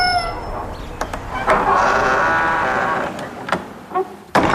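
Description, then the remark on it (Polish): A museum gate creaks open with a long, wavering, high squeal lasting a couple of seconds, broken by a few sharp knocks and clicks, ending in a loud metallic clank. No one speaks. “Tuż za skrzypiącą bramą wita nas”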